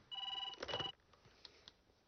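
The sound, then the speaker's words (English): Nick's phone rings once at 2 a.m. in a darkened bedroom, a bright, warbling electronic tone lasting under a second, then quiet apart from a couple of faint clicks. “In the darkened bedroom, Nick and Lisa are asleep. Nick's phone.”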